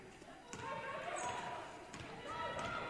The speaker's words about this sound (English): crossover dribble. Gets a pick. Stops.